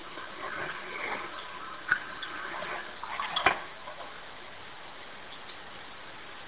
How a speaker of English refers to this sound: That was the backscatter.